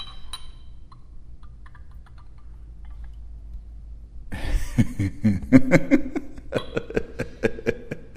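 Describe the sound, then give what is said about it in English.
After about four seconds of near silence, beer samples start being poured carefully into glasses: a steady bubbling, glugging stream with small glassy clinks and ticks that runs to the end. “Pour the samples. Okay. Be interesting to see. First of all, pour carefully.”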